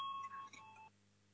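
A single steady electronic bell tone, the parliamentary signal for deputies to vote on a bill amending the law on pollution in second reading, rings out clearly for just under a second, then cuts off, leaving a quiet hum.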